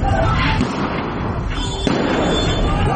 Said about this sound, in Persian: اینجا در کرمانشاه صدای تیراندازی شنیده می شود.